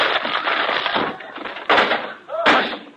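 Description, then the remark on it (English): A loud, noisy crash of a door being smashed through as someone walks through it instead of opening it, with a sustained clatter followed by two sharp, heavy impacts. “Just a minute. I'll open the door. Never mind. I'll walk through it.”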